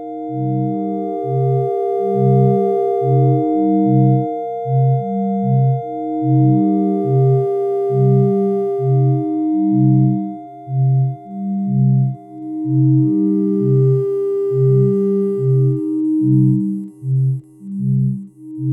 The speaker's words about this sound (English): It's a C minor 9 chord for anyone interested, all going into individual VCAs, and the LFOs are what controls the levels on the VCAs. So you can hear each note in this chord tone kind of freely fade in and out.